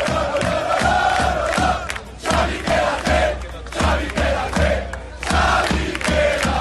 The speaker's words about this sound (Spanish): Gritos de Xavi, quédate, por parte de los aficionados madridistas.